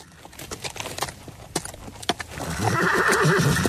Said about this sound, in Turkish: Yine mi at?